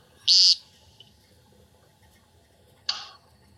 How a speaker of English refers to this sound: no one knows for absolute certain, but we're pretty sure it's a vocal sound as opposed to a mechanical sound made by the wings. But you can hear a difference in that twittering really turns into this chirping as they zigzag back down to the ground.